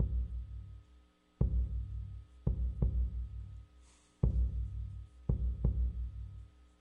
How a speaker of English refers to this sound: You're listening to my heartbeat. My heart beats for God.